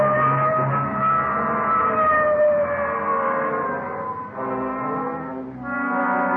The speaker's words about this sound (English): Okay, hit the siren. Let's move.